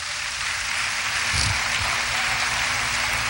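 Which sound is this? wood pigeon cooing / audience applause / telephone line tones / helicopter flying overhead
audience applause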